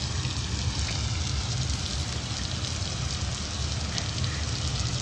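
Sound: rain falling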